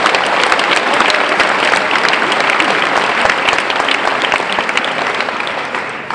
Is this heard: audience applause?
yes